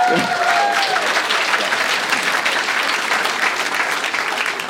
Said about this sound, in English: I'm just looking for who isn't clapping at this point.